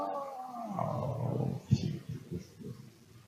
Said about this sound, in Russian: Рев, послышался жуткий.